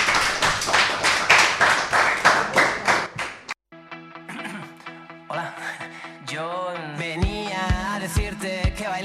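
A short burst of lively studio audience applause, dense and close, lasting a few seconds before cutting off abruptly into an upbeat musical jingle with no talking.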